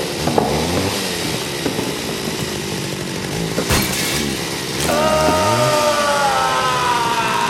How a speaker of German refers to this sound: Der kommt mit der Kettensäge direkt auf uns zu.